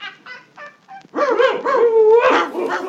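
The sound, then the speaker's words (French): A hunters' dog barks in a few quick, light yaps, then breaks into louder, longer, drawn-out barking and yelping, with no one talking. “S'ils ne vous tuent point, au moins vous trancheront-ils la queue d'un coup d'épée et lâcheront ensuite leur chien sur vous pour prendre un peu de distraction.”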